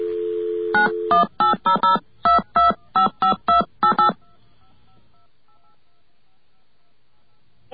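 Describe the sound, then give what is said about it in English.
A steady telephone dial tone hums briefly, then gives way to a quick series of about eleven touch-tone beeps punched in a rhythmic burst as an AT&T toll-free 800 number is dialed, followed by faint line hiss and near silence. “Let's get our dial tone.”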